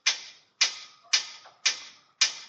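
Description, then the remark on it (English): Five sharp bangs at a steady, even pace, each with a short ringing decay, from construction workers building a house complex on the remains of a farm, heard in the background. No voices. “And yeah, you hear the construction workers in the back.”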